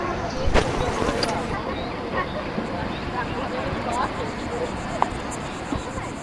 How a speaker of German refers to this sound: Und die Badi am Ufer gehört man auch.